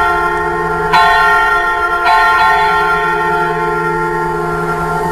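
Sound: cathedral church bells ringing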